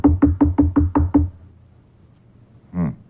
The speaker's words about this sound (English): Let's knock on the door here. Try again.